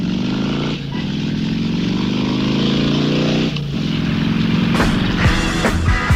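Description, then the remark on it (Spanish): A motorcycle engine starts and revs loudly, its pitch climbing steadily, briefly dropping twice as it shifts, then climbing again. No voices are heard. “Perdemos el ruidito de la moto arrancando por mí, la carretera al palo.”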